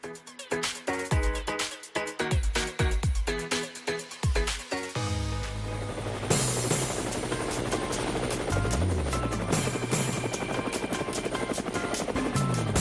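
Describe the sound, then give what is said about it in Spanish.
A helicopter's rotor thumps in a steady, rapid chop at first, then swells into a loud, dense roar as it seems to pass overhead. No voices. “Amigos de Cuba, llegó el momento del helicóptero.”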